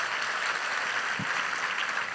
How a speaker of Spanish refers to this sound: Si ese es el aplauso, dáselo más fuerte al Dios que te ama.